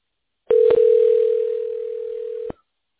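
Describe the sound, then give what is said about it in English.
A steady, loud telephone dial tone holds for about two seconds, clicking on and off abruptly at each end, with no voices present, as a call is dialed to transfer a customer to a tech specialist. “I'm going to go ahead and dial in right now.”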